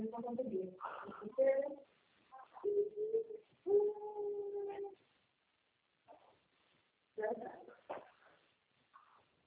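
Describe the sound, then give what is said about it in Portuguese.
A small dog howls in several drawn-out, wavering bursts, some short and yelping, others long and steady, separated by brief pauses. “Ah, já foi pro cachorrinho.”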